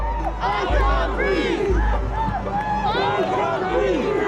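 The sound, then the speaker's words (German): A large crowd at an anti-racism demonstration in Bristol, England cheers and shouts as demonstrators pull a bronze statue of a British slave trader from its plinth, many raised voices overlapping in a loud, continuous roar with bursts of whooping and a low rumble underneath throughout. “Unter dem Jubel der Menge ziehen Demonstranten die Statue vom Sockel.”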